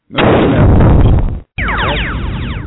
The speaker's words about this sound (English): There you go. You're going to hear that. You may hear both of them. But if you hear that thunder, man, that means I'm coming down hard on you. It's about to be some ugly stuff going on.